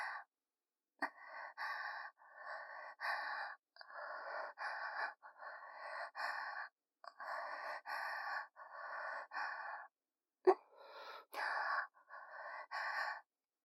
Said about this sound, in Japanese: 私の吐息と混じり合って、お顔とお顔の間、すごく蒸れた空間になってます。